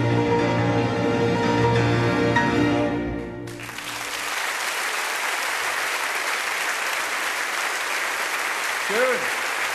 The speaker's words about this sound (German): Dankeschön, meine Damen und Herren, für das wunderbare Applaus.